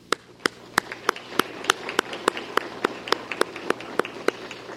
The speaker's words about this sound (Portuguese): Fica aqui meus aplausos aí, inclusive pelo nome dessa poetisa que empolga a vida de todos nós. Uma salva de palmas a ela e a vocês.